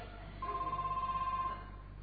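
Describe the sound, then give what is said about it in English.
The speaker's mobile phone rings on purpose during a talk, a single steady electronic tone that warbles rapidly for about a second, moderately loud over a low background hum, with no one speaking. “Somebody's phone is on.”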